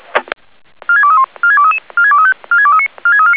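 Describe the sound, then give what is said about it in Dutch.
Pager alert tones of the Woudenberg fire brigade (Brandweer Woudenberg), repeating the alarm for a container fire: after a brief click, five loud bursts of rapid stepped electronic beeps repeat in a steady rhythm, each a short melodic sequence of mid-pitched tones, with no voices. “Brandweer Woudenberg, herhaal de alarmering voor de maat containerbrand.”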